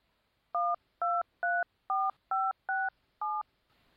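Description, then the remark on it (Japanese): A phone number is dialed on a touch-tone telephone keypad: seven crisp, evenly paced dual-tone beeps, clear, with brief quiet gaps between them and no voices. “絶望して死のうと思う人間がここに電話をすると、生きる希望を与えてくれるらしい。”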